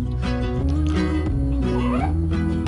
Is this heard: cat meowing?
yes